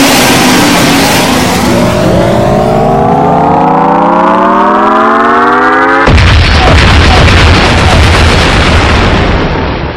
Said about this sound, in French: Le Great Fox, le fier croiseur de Fox McCloud, disparut dans une explosion spectaculaire et éblouissante.